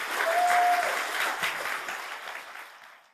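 An audience claps for a speaker in a dense, steady burst of applause that starts strong and gradually fades out over a few seconds, with no speech on top.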